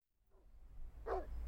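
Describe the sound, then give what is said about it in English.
A single sharp dog bark rings out, preceded by a faint, softer yelp, over a steady low background rumble. “There's a dog there. You could get bitten.”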